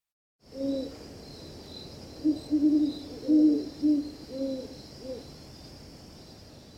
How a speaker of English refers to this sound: Two horned owls duet in twilight from a bare branch.